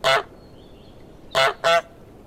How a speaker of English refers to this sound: And then eventually we ended up on these little takes that I took from a library of a goose recording and just made it really short and really neutral. And that's what we ended up with in the game.